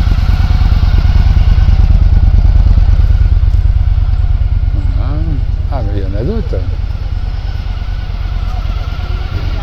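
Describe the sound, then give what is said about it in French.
The engine of a big red Victory motorcycle rumbles loudly, its throbbing beat easing slightly as it pulls away, while a man speaks briefly over the noise. “Là, il y a la grosse moto qui va partir. Victory rouge.”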